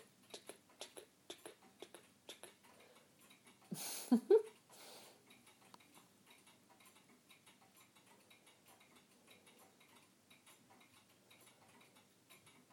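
Two clocks tick steadily, their beats falling out of step so the clicks form an uneven, overlapping pattern, with a short louder rustle or voice-like burst partway through.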